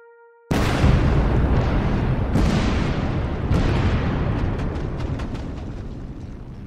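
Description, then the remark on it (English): A faint tone cuts off abruptly as a massive explosion tears through the hull of the ship Maine in Havana Harbor at night, followed by a sustained roaring rumble with further blasts bursting within it, loud throughout. “On the night of February 15th, an explosion tears through the ship's hull.”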